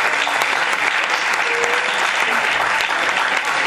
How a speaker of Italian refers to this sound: Dai, guardate che bel comitato, guardate che belle facce nuove, dai, allora fatemi l'applauso. Bravi, bravi, bravi.